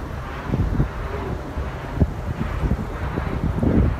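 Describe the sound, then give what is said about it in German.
A wind turbine turning: a steady, deep whooshing rumble with wind buffeting the microphone, swelling and easing slowly, with a few soft low thumps and no voices. “Ein Windrad, das sich da dreht.”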